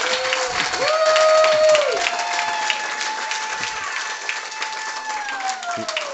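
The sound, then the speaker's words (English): A crowd cheers and applauds steadily for about six seconds, dense clapping under rising shouts and a few high whoops or whistles, loud and sustained throughout, a cheer given for a team's defensive front. “We'll give a big cheer to that defensive front because that's where it starts.”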